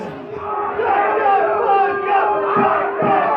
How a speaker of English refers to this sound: And Gavin McInnes actually has a run-in with a leftist crowd himself. He has a speaking engagement at NYU. Crowds show up to protest. There's a lot of chaos.